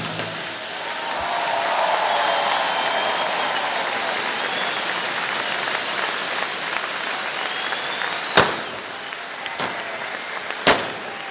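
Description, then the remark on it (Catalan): Sustained crowd applause fills an open outdoor town square in Vilafranca, applauding the Ball de Diables de Vilafranca after the musical that ended their part in a folklore exhibition; a dense wash of clapping from many people with a few sharp cracks like firecrackers bursting near the end. “Doncs un any més els aplaudiments de la plaça, evidentment per el Ball de Diables de Vilafranca, que amb aquest musical, com ja ens tenen habituats darrerament, doncs, han posat el punt i final a la seva participació en aquesta exhibició folklòrica.”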